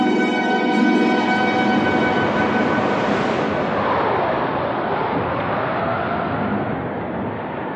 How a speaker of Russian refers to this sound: Около 8 часов утра ветер еще усилился. Это был ураган.